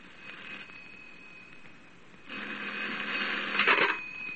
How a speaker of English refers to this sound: I had just arrived home. As I came in, the telephone was ringing.